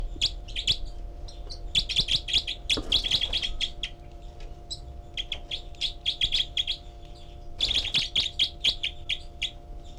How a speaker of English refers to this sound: And this is the group of four birds. And 306 is the loud one. 318 giving begging calls. 306 is the secondary caller.